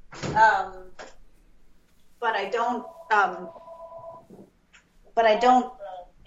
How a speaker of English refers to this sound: Sorry, my phone is ringing here. The house phone that never rings.